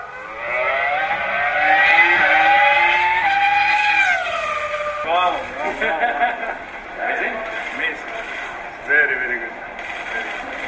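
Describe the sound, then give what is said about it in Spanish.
A Formula 1 engine, the car Fernando Alonso is testing, screams at high pitch, holding a loud rising whine for several seconds, then breaks into quick revving bursts and gear-change blips as the car passes. “Mañana va a apretar a fondo y al bajarse del coche, este es el sonido tan bonito y lo que decía Alonso al bajarse del coche.”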